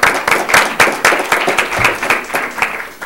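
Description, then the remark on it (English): A crowd at a Mesa public meeting applauds guests thanked for their participation, many hands clapping in a dense, bright wash with sharper individual claps punctuating it throughout, fairly loud and continuous for the whole stretch. “Will the mayor give us the prerogative to all applaud”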